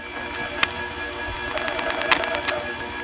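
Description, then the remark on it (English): Metallic telephone selector noise picked up on the line: sharp clicks followed by a rapid, ringing chatter of ticks over a steady hum, with no talking. “There was a great microphonic selector noise pickup there.”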